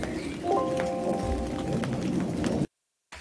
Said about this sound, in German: Ihr hört gerade den Regen und wir gehen mal nach drin und ihr hört uns gleich sofort weiter.